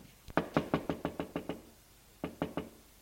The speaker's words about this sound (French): La mère d'Yves frappe à la porte de la chambre de son fils.